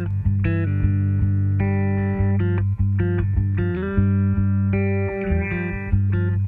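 Loud, steady pop music with a droning low bass and sustained, effects-laden guitar or synth chords that shift every second or so, with no voice heard.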